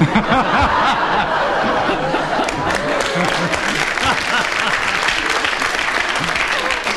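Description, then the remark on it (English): An audience bursts into sustained, loud applause for a clever challenge by Clement Freud, a dense steady clatter of many hands, with bursts of laughter and chuckling mixed in throughout the seven seconds. “Because the audience applauded, I feel I should give you a bonus point.”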